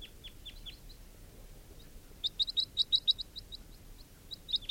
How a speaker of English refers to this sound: And there are still crossbills around.